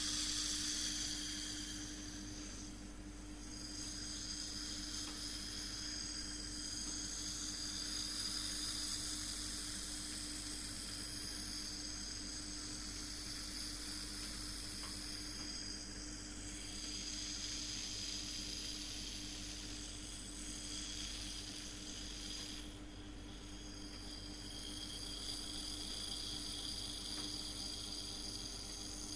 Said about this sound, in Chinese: 空调的声音好大啊，忘记关空调了。